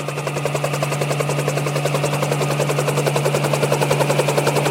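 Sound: helicopter flying overhead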